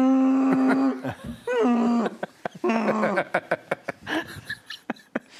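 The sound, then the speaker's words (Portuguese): A person imitates Chewbacca's growling roar: a few long, wavering, throaty howls with a warbling pitch, followed by scattered short clicks and bursts of laughter. “Não tem nada a ver com bloco, mas eu imito o Chewbacca muito bem.”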